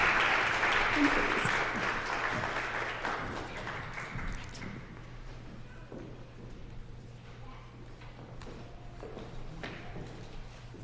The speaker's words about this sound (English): Applause is appropriate in this moment. You can clap for them.